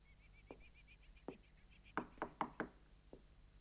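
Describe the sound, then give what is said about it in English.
A man knocks on the front door of a house: two slow, separate knocks, then a quick run of four firmer raps and one last lighter knock, with faint high twittering in the background. “He taps on the door.”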